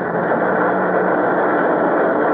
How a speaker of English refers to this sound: Lingayen airstrip, where General Douglas MacArthur's troops stormed ashore in Luzon, a squadron of U.S. fighting planes returns for mission over Manila. Stand back over there. Watch those fighters taxiing in.